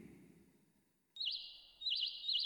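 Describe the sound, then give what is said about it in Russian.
A nightingale trills loudly after a brief low murmur, its bright song rippling in quick repeated warbling phrases that pause and resume. “Ну, вот и кончилась наша сказка, а соловей с тех самых пор поет свою песню каждую весеннюю ночь.”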